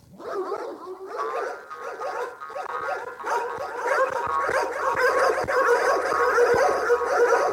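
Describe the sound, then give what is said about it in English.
A dog, Pixie, a family dog, grumbles, whines and yips continuously as it plays and jumps, its rough, gargly vocalizing steady, with soft thumps of landing paws scattered through the second half. “She's Pixie, and she's our family dog.”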